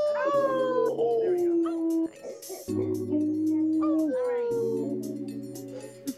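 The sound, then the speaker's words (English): Members of Team Night Runners at a 24-hour animation contest howl together like wolves, several voices overlapping in long sustained wails, in two loud bursts separated by a short pause. Human voices imitating wolf howls. “Give a howl.”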